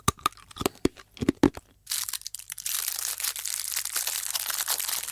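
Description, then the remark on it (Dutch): Sharp crinkling and crackling of a plastic candy wrapper as someone tears it open, first in several quick separate bursts, then a steady rustling tear that continues until the end. “Dat is iemand die een snoepje openmaakt en daarna koud op het snoepje.”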